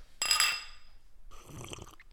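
household object, glasses clinking

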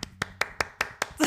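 human body sound, hand clapping

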